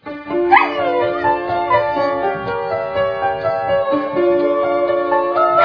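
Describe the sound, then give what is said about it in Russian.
A dog howls and whimpers in long, wavering tones, singing along to piano music, with a few yipping barks mixed in. The sound is loud and steady throughout. “Я за рояль, а собака поет.”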